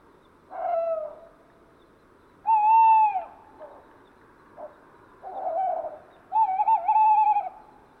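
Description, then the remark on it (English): A perched male tawny owl, cleaning his plumage, hoots persistently, its clear, wavering hoots coming in several bursts separated by short pauses, prominent over a quiet, faintly hissing background. “On the scene's far right side, a tawny owl is perched. It's a male, cleaning his plumage while hooting in a persistent way.”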